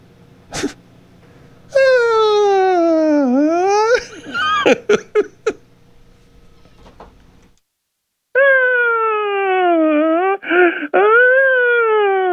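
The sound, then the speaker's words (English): A voice imitates a wailing police siren, its pitch sliding down and back up, then breaks into short bursts of laughter before a second siren wail that dips and rises again. “I used to have mouth siren cop.”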